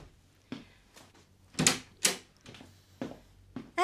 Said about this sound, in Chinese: 等我开门先。